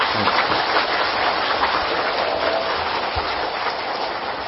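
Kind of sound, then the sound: crowd, audience applause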